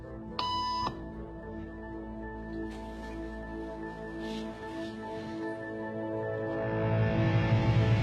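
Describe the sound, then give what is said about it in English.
A single short electronic beep tone sounds sharply near the start, used in a hidden camera experiment where people stand up at the tone, then fades into a steady low background hum with faint ambient murmur and no further tones. “After just three beeps, and without knowing why she's doing it, this woman is now conforming perfectly to the group.”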